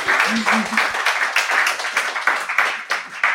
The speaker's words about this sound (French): Est-ce qu'on peut les applaudir ce matin et les remercier?